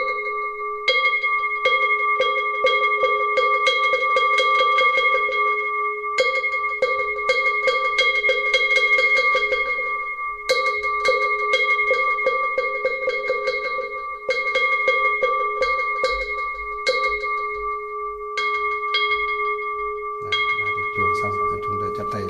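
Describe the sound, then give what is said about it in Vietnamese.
Three rounds of a temple bell ringing with a sustained, humming tone while a wooden fish is struck in quick, steady knocks, separated by short pauses, fairly loud throughout, at the start of a Buddhist rice-offering rite for a deceased person's spirit. “Thì bây giờ thì bắt đầu vào thì chúng ta cho ba hồi chuông mõ như thế này đã.”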